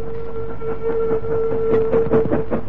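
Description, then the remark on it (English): A train leaving a tunnel rumbles past with steady rhythmic clatter, a sustained whistle-like tone riding over the heavy mechanical noise; no voices. “As soon as the train left the tunnel, they pushed open the door”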